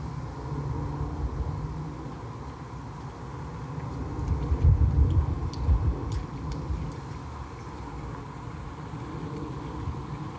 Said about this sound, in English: Can you hear it? The airplane above, life around me.